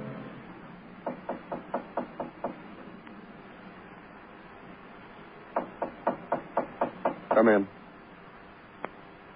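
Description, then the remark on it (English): Two bursts of rapid, firm knocking on a door, each about seven sharp raps in a steady rhythm, separated by a pause, with a brief louder rattle and one last single tap after. “Well, I knocked you.”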